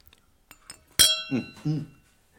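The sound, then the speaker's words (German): Two glasses clink together once in a toast with a bright chime that keeps ringing for about a second, after a couple of faint taps; a voice speaks briefly over the fading ring. “Prost. Prosti.”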